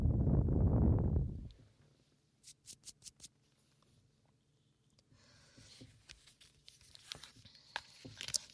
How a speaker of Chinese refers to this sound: 像翻书写字的声音，也不用说了，这是个小本子。